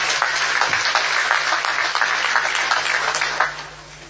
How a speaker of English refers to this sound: Can we clap for them, please?